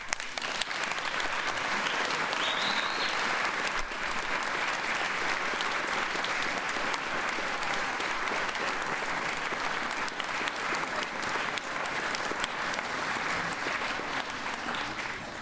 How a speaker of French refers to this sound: Déjà, un grand merci, on peut les applaudir.